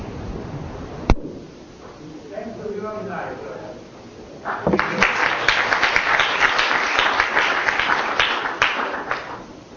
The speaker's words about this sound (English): The last word should really be a long-standing applause to the organizers. They have really organized fantastic workshop for us, and we should hear all of them kind of a long applause, because it's really wonderful to be here.